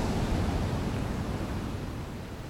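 A steady, soft wash of sea surf rolls along a beach, a broad continuous hiss with a low rumble that eases slightly toward the end, with no voices.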